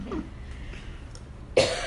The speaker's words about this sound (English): It's like a battle. I'm gonna get the last cough in.